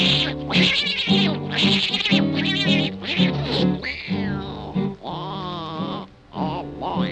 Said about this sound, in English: Now on that very same night, that old tomcat started a fight. And this is the way it all did sound to me.